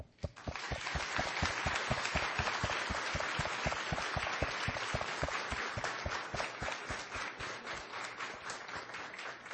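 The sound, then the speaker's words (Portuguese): A large audience in a plenary hall breaks into sustained applause for the men and women of the fire brigade, the clapping loud and dense, settling into a steady rhythmic beat that carries on for several seconds without voices. “Mas, por favor, eu peço a todos que estão nesse plenário que, neste momento, aplaudam a cada um dos homens e mulheres do Corpo de Bombeiros que servem essa comunidade.”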